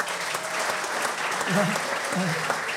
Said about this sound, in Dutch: Een hartelijk applaus voor de zoveelste keer voor Ben Wijnstekers.